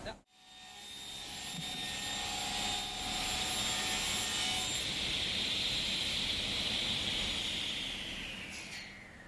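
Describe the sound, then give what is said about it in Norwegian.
A power saw cuts through wood, a loud, steady whining roar that holds for about nine seconds before its pitch sags slightly at the end. “Da fyrer vi opp saga her.”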